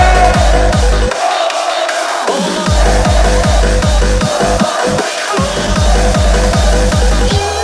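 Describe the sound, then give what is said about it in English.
A crowd in Mexico shouts "hey!" together on an MC's cue over loud, pounding music, a heavy kick drum thumping in a fast, steady rhythm beneath the massed voices. “Everybody say hey!”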